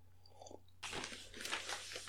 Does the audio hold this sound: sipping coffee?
yes